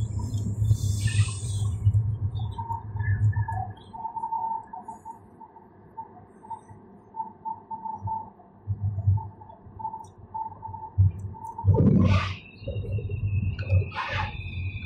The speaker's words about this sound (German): Warum klingt diese U-Bahn wie eine kaputte Klospülung? Was ist denn da los?